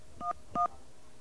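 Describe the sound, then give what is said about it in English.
Touch-tone telephone dialing 411: two short dual-tone beeps in quick succession, clear, with a brief pause between them and no voices. “We're going to dial 411 now.”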